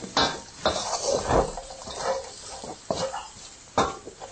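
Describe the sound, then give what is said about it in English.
Food being tossed around in a pan: irregular metallic scrapes and clatters with several sharper knocks, steady and fairly loud, no voices. “tossing it round till it's covered nicely.”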